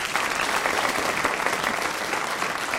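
A studio audience claps steadily to welcome a contest winner, a dense wash of many hands slapping together at an even, fairly loud level for a few seconds, with no voices over it.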